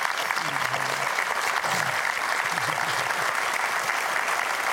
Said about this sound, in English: Well, you saved millions of their lives. Would you just applaud the life of Peter Pretorius?